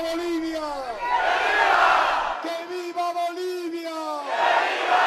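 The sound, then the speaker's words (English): A crowd in Bolivia roars and cheers for presidential candidate Paz while voices chant together in long, drawn-out shouted syllables. The cheering swells loudly at the start, dips, then surges again at the end. “Bolivia is seeking change, it is seeking renewal, Paz declared to cheering crowds before chanting, "Long live Bolivia."”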